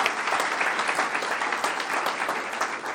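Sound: audience round of applause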